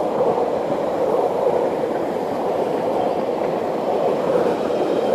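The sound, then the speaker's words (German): An S-Bahn commuter train rumbles steadily past, a loud, continuous roar of wheels and carriages holding level for several seconds with no talking. “Ja, eine S-Bahn.”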